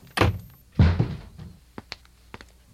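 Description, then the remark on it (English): A shoe is thrown against a door: two heavy, loud thuds strike it in quick succession, followed by a few faint, scattered taps as things settle. No one speaks. “Don't you ever throw another shoe or any other object against that door.”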